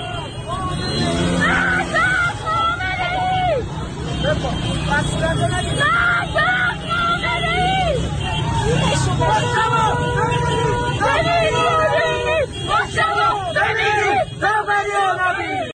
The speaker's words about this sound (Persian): در خیابان ولیعصر تهران شعار مرگ بر دیکتاتور سر داده شد.